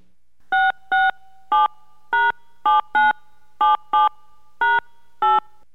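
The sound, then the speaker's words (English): Ten crisp touch-tone beeps key in a daytime phone number, starting with the area code, on a Coors sweepstakes phone line; each short dual-pitched tone is separated by brief gaps in a steady, slightly uneven rhythm, clear with no talking. “Please touch tone in your daytime phone number, starting with the area code.”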